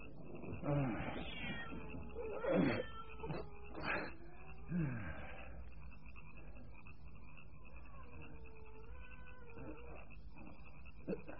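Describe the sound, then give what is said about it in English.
A cat out in the dark meows four or five times in quick succession, drawn-out and wavering, then trails off into fainter cries over a steady high chirring background, like night insects or frogs. “What do you want, Cat? That animal is out there in the dark.”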